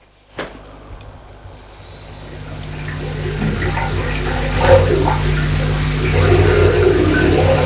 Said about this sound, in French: Il leur dit « Salut !» et va au robinet se laver les mains.